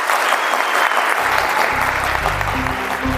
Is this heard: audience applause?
yes